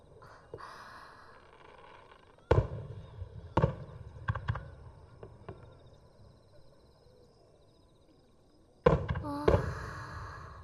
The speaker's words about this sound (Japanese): あ、花火が始まったよ。